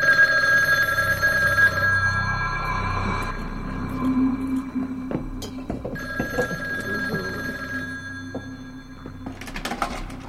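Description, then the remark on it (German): A telephone bell rings in bursts, a bright metallic trill with steady tones, fairly loud, interspersed with soft clicks and clatter; no one speaks. “Ich war gerade dabei, Kartoffeln zu schälen, da klingelte das Telefon.”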